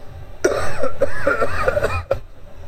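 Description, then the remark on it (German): A person clears their throat, a raspy, voiced rumble lasting about a second and a half before cutting off abruptly, with no talking around it. “Ich mach mal hier gerade eine Räusper-Taste.”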